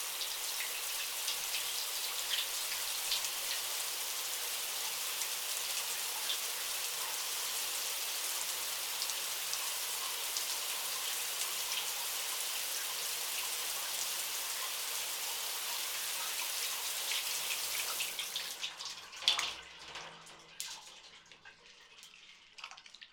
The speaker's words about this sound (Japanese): 久しく洗ってなかったからか、なかなか泡立たないね。仕方ない。一度シャワーで流して、もう一度シャンプーをつけよう。